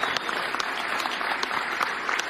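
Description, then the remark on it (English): Steady audience applause, a dense wash of many hands clapping at an even, sustained loudness throughout, with no voices standing out above it. “Finally, the applause I've been waiting so long for.”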